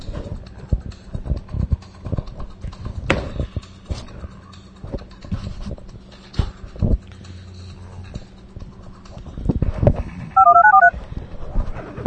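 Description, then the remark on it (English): A short burst of telephone keypad dialing tones, a few quick beeps near the end, following a stretch of irregular clattering knocks and rustling handling noise. “Oh shit, wrong phone.”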